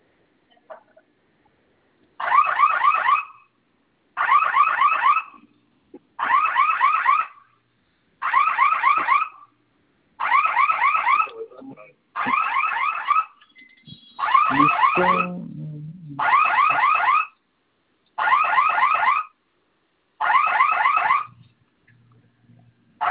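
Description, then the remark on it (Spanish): A security system alarm, set off as a test by holding the fire (flame) button for 10 seconds, sounds in ten evenly spaced warbling bursts, each about a second long with short gaps, loud, with a brief murmur of a voice near the end. “Vamos a oprimir el botón de la flamita por 10 segundos, se va a activar la alarma.”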